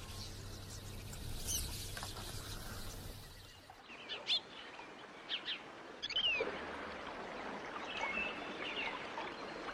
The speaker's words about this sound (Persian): پرنده ها متوجه حضور ما شدند و به سرعت بر فراز نیزارها پرواز میکنند.